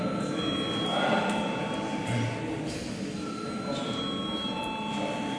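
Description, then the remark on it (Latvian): A steady electric bell rings continuously at an even pitch for several seconds, holding a constant level, with faint murmuring voices underneath: a parliament's voting bell, rung before a vote on a bill in its second reading. “Lūdzu balsot par. Paldies, lūdzu zvanu.”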